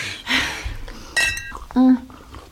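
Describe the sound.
Small liqueur glasses clink together in a toast, a couple of bright, ringing taps, with murmured voices around them.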